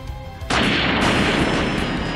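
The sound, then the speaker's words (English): A sudden, loud cannon blast bursts in after a quiet moment, then a dense, roaring rumble sustains at full volume through the rest, with no voices. “Commander Fuck You burst from the cannon and into the air, flying at the speed of sound”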